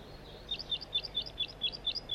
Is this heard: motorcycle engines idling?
no